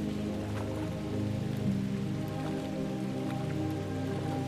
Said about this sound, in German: Der typische Schnürregen, auch bekannt als Salzburger Schnürlregen, lässt die Umgebung in ein Nebelfeld tauchen. Regentropfen fallen wie an Schnüren gezogen vom Himmel.